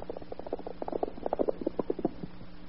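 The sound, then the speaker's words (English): A quick run of hollow clip-clop knocks of a horse's hooves coming down a road, growing a little louder, over a faint steady hum with no voices. “I hear a horse coming down the road now.”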